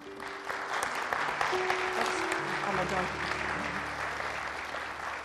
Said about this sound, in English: Let's just give another round of applause